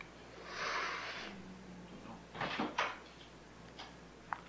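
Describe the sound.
A person imitates snoring: one long, raspy, breathy rasp, then a pause and a couple of shorter snorting bursts, followed by faint clicks. No one speaks.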